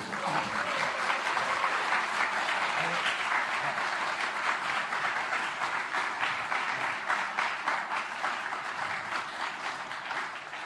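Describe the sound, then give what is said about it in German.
Sustained applause from a large audience at an award ceremony, as a 2005 lifetime award goes to Germany's federal interior minister; a dense, steady wash of many hands clapping at once, loud and continuous for the full length with no voices rising above it. “Der Applaus ist wohlverdient.”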